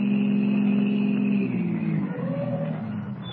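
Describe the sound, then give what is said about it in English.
A car carrying Duke Renard and his two henchmen turns off the Conway Turnpike onto a well-hidden wagon road: its engine rumbles steadily, then its pitch drops and it eases down as the car slows and comes to a halt, with the motor still running softly. No one speaks. “unaware that the hour of Henry Benson's departure from the city jail has been changed from 9 to 8, the car carrying Duke Renard and his two henchmen, Curly and Spud, turns off the Conway Turnpike and comes to a stop on a well-hidden wagon road.”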